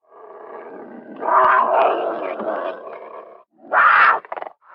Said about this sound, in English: One night, while throwing hay, I heard a low growl emanating from the darkness.